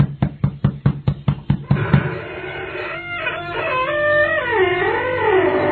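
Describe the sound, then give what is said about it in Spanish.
One morning, a quick series of about eight sharp, loud knocks on a door in a steady rhythm, then a rooster crows in the background as the knocking stops. “Una mañana llegaron a tocar la puerta.”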